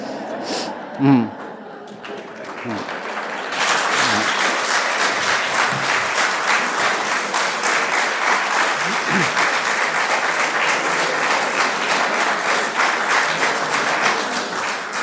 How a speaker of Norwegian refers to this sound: Ja, du fikk en velfortjent applaus.